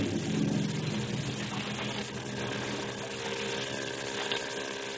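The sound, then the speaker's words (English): A motorboat engine drones steadily up ahead in a foggy channel, a continuous low hum with faint tonal bands that never rises or fades over the whole stretch, with no voices present. “Better not steer directly to where the sound of his motor's coming from.”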